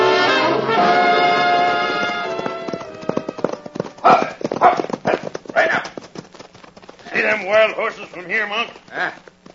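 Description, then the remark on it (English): Hooves of a horse named Thunder, carrying a keg of powder, clip-clop in a quick, steady riding rhythm, loud, following a sustained tonal sound at the start; a man's voice speaks over the hoofbeats near the end. “All right, boy. Let's ride.”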